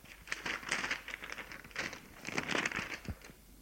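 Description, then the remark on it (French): A small paper note, found on a living-room mantelpiece, crinkles and rustles as it is unfolded, a quiet series of irregular crackly bursts over a few seconds with no talking. “vient de trouver sur la cheminée du salon un petit papier.”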